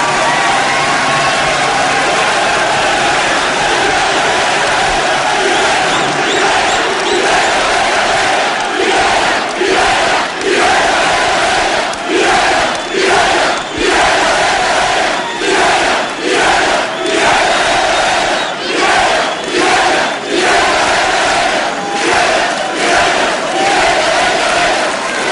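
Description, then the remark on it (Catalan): A large crowd in the Plaça del Blat roars and cheers continuously at the celebration of the vella, with rhythmic bursts of shouting rising and falling in regular pulses through the second half, loud and dense throughout. “Sentim-ho, perquè val la pena veure i viure en aquesta plaça del Blat la celebració de la vella.”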